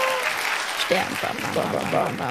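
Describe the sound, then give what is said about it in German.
An inserted applause sound effect: a burst of crowd applause, dense clapping mixed with a few cheers and voices, steady and moderately loud throughout. “Applaus bitte. Ich will mal kurz Applaus einblenden.”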